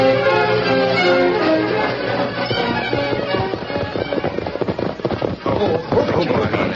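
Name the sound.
horse hooves galloping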